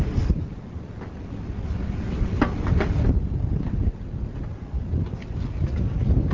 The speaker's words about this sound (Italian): Sì, usciamo all'aperto. Anche per fare una registrazione dal vivo. C'è molto vento.